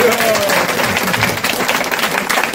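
A crowd applauds steadily, dense overlapping clapping at a fairly loud, even level throughout with a faint murmur of voices beneath.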